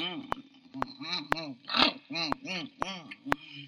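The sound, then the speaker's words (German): A voice imitates a guard dog greedily eating a piece of bread it was given: wet, rhythmic smacking clicks about every half second under snuffling, grunting hums, fairly loud. “Und er fraß es gerne.”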